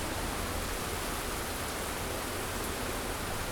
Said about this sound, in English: That's rain. If you ever wanted any clearer proof that Gibraltar is British, this has to be it. A rainy bank holiday weekend.